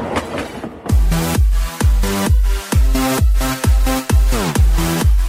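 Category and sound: vehicle, train clattering along rails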